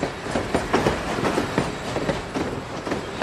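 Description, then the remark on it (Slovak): A train rolls along the rails with a steady, dense rumble and a rhythmic clickety-clack of wheels over track joints repeating every half second or so, with no voices. “Vláčiky, zbieranie vláčikov alebo pozorovanie vlákov.”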